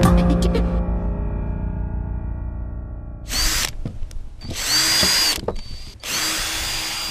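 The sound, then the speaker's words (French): A power drill at a DIY workshop set up in a farm barn hums and then revs up in several loud bursts, whining steadily for a second or two each time, with short pauses in between. “Atelier bricolage, perceuse.”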